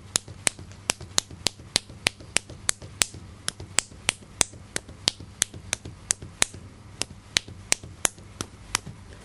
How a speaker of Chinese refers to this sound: 跟着手背，拍手背，又是手背拍手背，左右手轮流做。